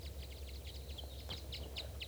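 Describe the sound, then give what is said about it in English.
A large flock of at least four or five birds chittering, with quick, high-pitched chirps tumbling over one another in an irregular stream, fairly soft above a steady low hum. No one speaks. “There's at least 4 or 5 birds here. A large flock.”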